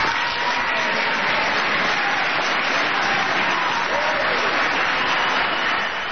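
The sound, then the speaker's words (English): Democrats in Congress burst into sustained applause and cheering during the president's yearly speech, after his remark on Social Security, a dense, steady roar of clapping lasting several seconds without pause. “always my favorite part of the speech every year, when he chides Congress for not passing his plan for Social Security, and the Democrats give a rousing cheer.”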